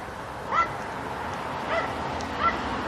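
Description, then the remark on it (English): Small dogs give three short, high-pitched yips spaced about a second apart, moderately loud over a steady background hum. “Little yappy dogs.”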